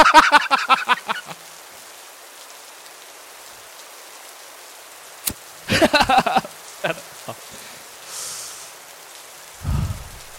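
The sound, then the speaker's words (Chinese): A voice imitates rain with mouth sounds, dubbing a rainy-day scene: rapid patters of hissy clicks in two bursts separated by a pause, then scattered drips, a soft hiss and a low breathy whoosh at the end. “我的情境是一个下雨天， 嗯哼， 所以会有一些雨声，我自己在配。”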